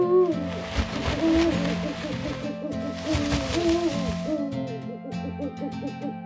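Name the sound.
owl hooting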